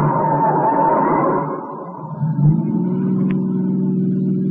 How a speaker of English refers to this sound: Turn right at the next corner, there's... The car's been tailing us for the last 5 minutes.